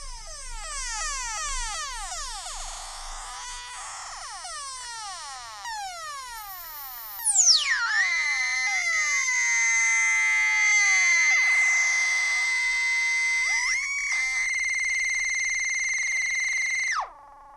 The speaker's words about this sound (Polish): Syntezatorek jeszcze. Syntezator analogowy. W pełni.